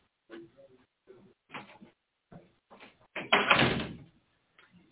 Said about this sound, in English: Let me shut this door.